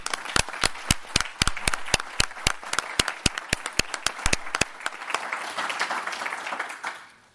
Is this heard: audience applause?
yes